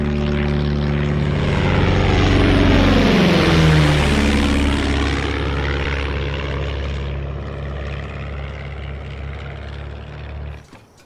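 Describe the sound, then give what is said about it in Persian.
A Super Cub small propeller airplane engine drones loudly and steadily, its pitch sweeping as it passes by, then continuing as a strong buzzing hum until it cuts off abruptly. No one speaks. “من بقیه تابستون درگیر گردیزی با هواپیمای سوپرکاپ هستم.”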